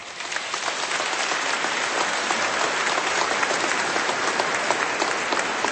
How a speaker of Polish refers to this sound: Są z nami orkiestra Dęta Ochotniczej Straży Pożarnej w Pruszczu. Brawa.